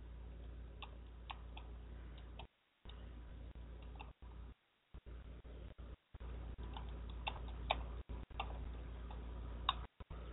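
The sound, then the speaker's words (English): Irregular, light clicks on a computer keyboard tap away over a steady low hum, with brief gaps of silence breaking up the typing. No one speaks. “I'm typing something now so they know what's going on.”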